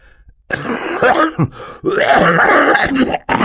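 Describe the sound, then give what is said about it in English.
Harsh, rasping coughing of a man into a handkerchief, several strained bursts run together with a groaning, throaty quality, loud and with no other sounds around them. “Mr. Poe said, coughing into his handkerchief”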